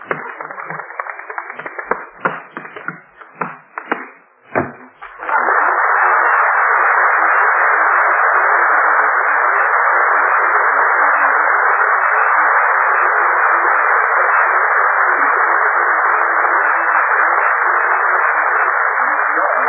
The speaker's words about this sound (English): George, I heard the door slam. I guess Bill got rid of Gene Kelly.